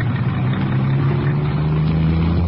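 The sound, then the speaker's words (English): The engine of a white convertible roars, its low, steady drone edging slightly higher in pitch as it revs and the car drives off, with no voices over it. “Are you the man enough to drive a car like this?”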